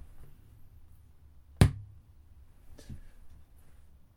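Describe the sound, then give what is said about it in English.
A single sharp thunk from computer monitors being switched off, a short percussive knock with a low thud, followed by a fainter click a second later over a quiet steady background hum. “I'm going to turn them off. You shall hear a thunk.”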